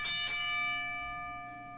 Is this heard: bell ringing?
yes